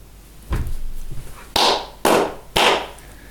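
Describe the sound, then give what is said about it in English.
Three sharp hand claps in quick, even succession, each a loud bright crack with a short ringing tail, preceded by a dull low thump. No one speaks. “The third clap means, my dear Lord, if you should break your promise which you have given in the Gita, that you would take care of your devotees, then this will look very bad for you.”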